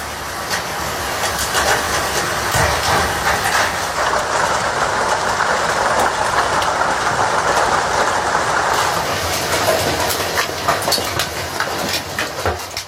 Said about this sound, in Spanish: Este era el sonido del granizo golpeando los tejados.